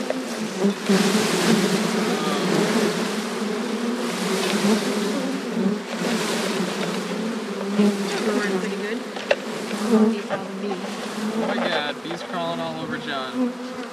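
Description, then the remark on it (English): A dense, steady drone of many honeybees buzzing as they are dumped into a hive, a continuous loud hum with fluttering rises and brief higher whines near the end. “The bees can get at her and feed her. Okay, I'm gonna dump them in.”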